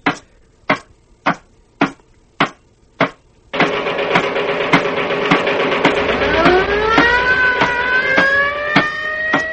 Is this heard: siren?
yes